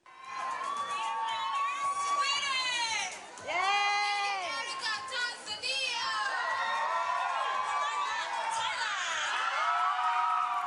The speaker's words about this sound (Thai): ครับเสียงกองเชียร์ชาวไทยจำนวนไม่น้อยเดินทางไปให้กำลังใจนางสาวมาริยาภูลเลิศลาภตัวแทนประเทศไทยบนเวทีประกวดนางงามจักรวาลหรือ Miss Universe ครั้งที่66ประจำปี2017ที่นครลาสเวกัสรัฐเนวาดา